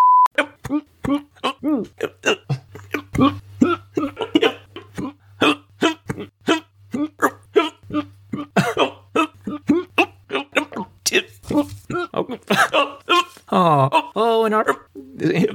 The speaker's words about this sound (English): And on that point, during this episode's recording, I actually had the worst case of hiccups for the first 20 minutes of the raw recording. So here's just a sample of what had to be edited out.